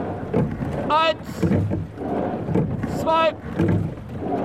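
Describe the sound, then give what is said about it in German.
Rowing strokes through water during a 20-stroke start repeat in a steady rhythm, about two seconds apart, each a rushing splash over a constant watery wash, with a short tonal squeak or call at each stroke. “Start, 20 Schläge.”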